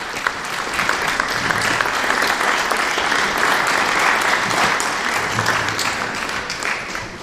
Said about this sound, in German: Und einen kleinen Applaus.